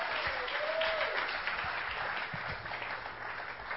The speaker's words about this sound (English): Give him some applause, people.